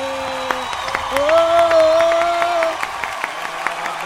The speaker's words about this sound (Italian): Cioè, di fronte a questo giubilo, di fronte a questa energia, questa esplosione di entusiasmo, non si può che applaudire, bravissime.